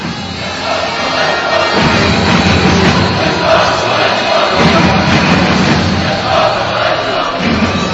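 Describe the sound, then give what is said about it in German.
A large ice hockey crowd of fans chants "Czechoslovakia" in unison, a loud, dense roar of many voices rising and falling in steady rhythmic waves with no pause across the whole stretch. “Heute war es vor allem sehr schön, als die Leute Tschechoslowakei skandiert haben.”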